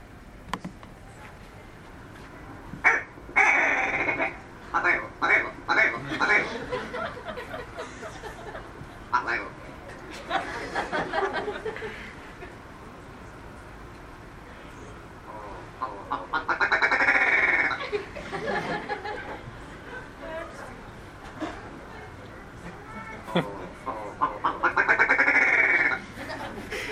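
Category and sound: bird, ptarmigan call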